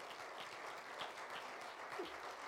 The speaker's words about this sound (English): He anoints people, and he will anoint his work right here in Paris, Texas. If you believe that, would you clap your hands unto the Lord?